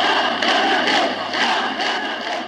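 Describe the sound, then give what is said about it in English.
A huge crowd of around 100,000 people at the funeral of Nobel Prize-winning poet George Seferis in Greece, under the dictatorship, chants 'Athanatos' (immortal) in unison outdoors: a loud rhythmic collective shout with pulsing repeated syllables, dense and sustained, swelling every half second or so. “The crowd is shouting Athanatos, or immortal, in reference to the poet's standing.”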